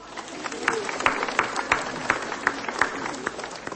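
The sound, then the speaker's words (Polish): An audience applauds the accompanying music group at a children's and families' pilgrimage to Our Lady of Tuchów, with steady, dense clapping that holds at an even, moderate level and has sharper individual claps popping out above the wash of sound. “Brawa!”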